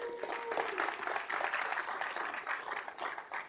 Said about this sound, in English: She's here today, so perhaps a round of applause for her.